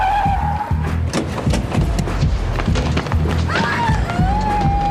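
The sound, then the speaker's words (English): A car braking to a stop, with a high tire or brake squeal rising at the start and again near the end over a loud, busy rumble and scattered clattering knocks. “Stop the car right here.”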